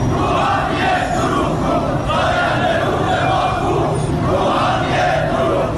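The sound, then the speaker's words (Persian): A large crowd of farmers chants protest slogans together in loud, rhythmic unison, voices rising and falling in repeated phrases with a dense, continuous roar and no pauses. They are protesting the transfer of Zayandeh Rud river water to Yazd. “از خوزستان گرفته تا فارس و اصفهان با کشاورزانی که در اعتراض به انتقال آب زاینده رودشان به یزد دست از اعتراض و تجمع و شعار بر نداشتند.”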